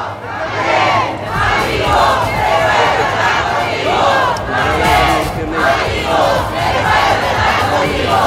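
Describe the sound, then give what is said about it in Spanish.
A crowd of supporters of President Boric shouting outside the entrance of the Congreso Nacional on Avenida Pedro Montt as he arrives, a loud continuous roar of many voices with rising and falling chant-like cries, sustained throughout with a steady low hum underneath. “Escuchan algunos gritos de algunas personas que fueron”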